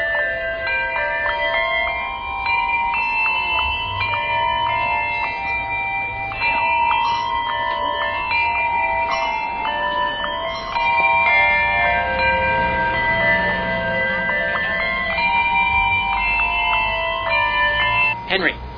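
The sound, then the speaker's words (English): Handbells ring one after another in a steady sequence, each clear metallic tone overlapping the last and sustaining through a fairly loud stretch of ringing. “Chuck rings on two. You ring on three.”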